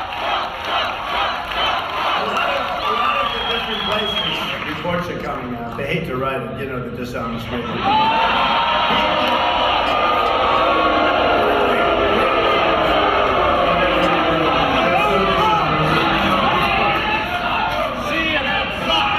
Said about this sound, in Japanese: トランプトランプという掛け声がかかる中で、トランプ氏が後方に陣取った報道陣を指を指しながらバカにすると、支持者たちもブーイングしながら CNN サックくたばれと叫んでいました。